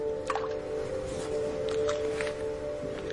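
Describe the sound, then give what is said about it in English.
Soft, wet lapping and small splashy slurps come in irregular bursts as a 5-week-old female puppy drinks water, showing a first tentative interest in water as it replaces milk, over a steady low humming tone. “Milk is replaced with a first tentative interest in water.”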